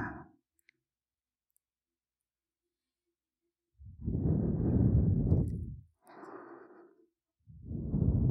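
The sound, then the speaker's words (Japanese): After a few seconds of near silence, a younger sister blows three long, soft, warm exhalations right against the listener's ear, breathy, with a brief pause between each puff. “妹のあったかい吐息がお耳に当たるの、たまらないって感じだね。”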